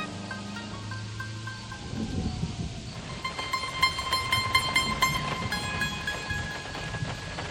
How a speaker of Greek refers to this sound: Κατακτώδης βροχή στους δρόμους.